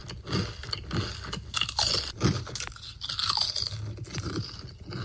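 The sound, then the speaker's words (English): Steady crunching of crisp food being chewed, with a rapid series of sharp, brittle bites and grinding chews repeating throughout and no talking. “Are you bothered by the sound of your own crunching noises in your own mouth?”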